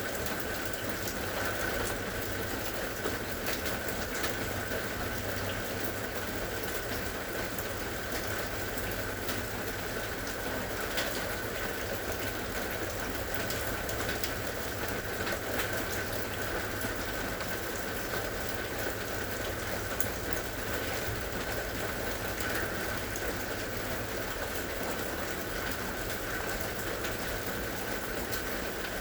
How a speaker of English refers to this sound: The rain is lighter now. What is the sound of the rain sound like now? In this present moment.